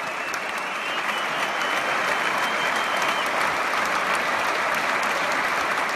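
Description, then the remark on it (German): Sustained, dense applause, a standing ovation from a large crowd at the Saarländisches Staatstheater, a steady roar of many hands clapping at once without pause, loud and even throughout with no voices standing out. “Hier, das macht Spaß, mal wieder sowas zu hören. Standing Ovations.”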